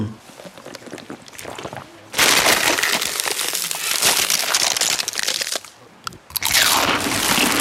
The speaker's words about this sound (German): Kannst du mit dem Chips aufhören? Das ist unerträglich!